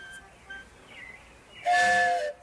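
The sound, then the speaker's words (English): A wooden train whistle gives one short, loud, breathy blast of about half a second, its chord-like tones sounding against a quiet background. No one speaks. “Oh, it's a train whistle. Wow, a wooden train whistle.”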